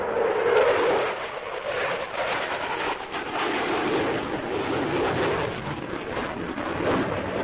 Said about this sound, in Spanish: Decenas de aviones como este que suena, un Eurofighter del Ejército del Aire, desfilarán el próximo 30 de mayo sobre la Avenida de Samil en el acto central del Día de las Fuerzas Armadas, que en este 2026 tiene como epicentro la ciudad de Vigo.